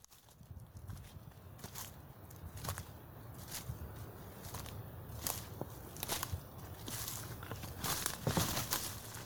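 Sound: rustling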